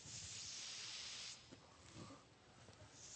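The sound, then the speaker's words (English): A steady, loud hiss of air being let out of an overfilled balloon, strongest for the first second or so, then softening and ending with a brief renewed rush, with faint handling sounds beneath. “Let's see, I think I have too much air.”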